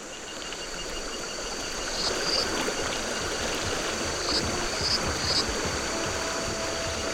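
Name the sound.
river water flowing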